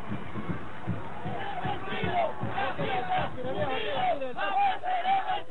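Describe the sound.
A large crowd at a military parade in Venezuela cheers and shouts together in continuous, rising waves of voices, loud, with rhythmic chant-like bursts throughout, in support of Maduro.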